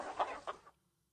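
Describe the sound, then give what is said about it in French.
A rooster crows briefly, a loud rasping call in three quick surges that ends abruptly within a second, followed by quiet. “Le coq s'est met à crier devant le manger maillé.”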